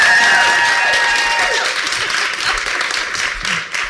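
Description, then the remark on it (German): Loud, sustained applause from a large audience, dense clapping filling the whole stretch with steady intensity and a few whistles or cheers rising above it. “Also kann man jetzt nicht so sagen, aber ja, man spürt am Applaus das Temperament.”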